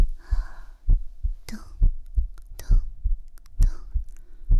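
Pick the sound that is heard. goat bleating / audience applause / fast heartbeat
fast heartbeat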